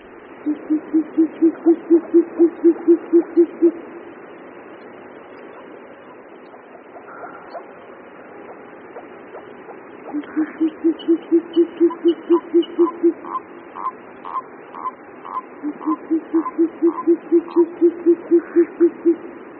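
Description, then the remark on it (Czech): Short-eared owl male courtship hooting: three bursts of rapid, evenly spaced low hoots, each run lasting a few seconds, fairly loud against a soft background hiss, with faint higher chirps between. “Hlas tokajícího samce sovy pustovky není u nás právě běžný zjev.”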